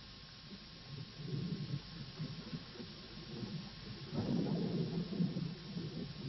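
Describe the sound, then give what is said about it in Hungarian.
Low thunder rumbles steadily from a storm, swelling into a heavier rolling crash partway through before trailing off into a continued murmur. No voices. “A vihar okozza.”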